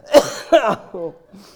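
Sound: cough and throat clearing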